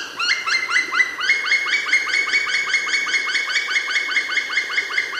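A black woodpecker's song: a long, fast run of loud, ringing whistled notes repeated several times per second at an even pace, with no talking.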